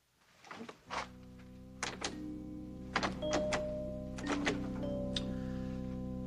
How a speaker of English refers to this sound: You've locked the door. Oh, yes, yes, I've locked the door.